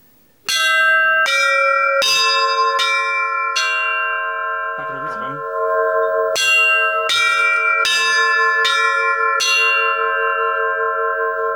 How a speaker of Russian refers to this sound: Ну что да, мы, здесь просто перебираются колокола.